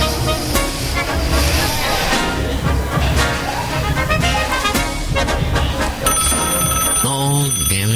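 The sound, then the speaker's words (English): A telephone rings loudly amid a dense, clattering wash of noise, with repeated bell-like pulses and a steady electronic tone coming in near the end. “That call, and of course we can't answer the phone here, but last night this morning at Relodio, Puzzling Evidence was able to take a call, but now we get that too with on the new KPFA.”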